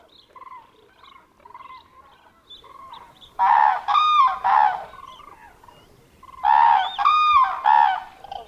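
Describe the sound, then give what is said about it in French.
A flock of winter birds in a park in cold late February calls with honking, goose-like cries: soft scattered calls at first, then two loud bursts of three harsh honks each, with no talking. “Comme le font ces groupes d'oiseaux que tu vois dans cette scène,”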